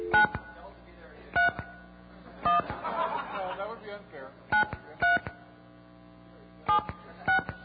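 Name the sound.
telephone touch-tone dialing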